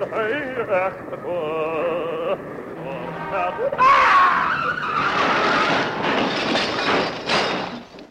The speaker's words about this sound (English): … only gave off his best when singing on the corner of Socky Hall Street in Glasgow. You may hear some traffic noise. Pay no attention.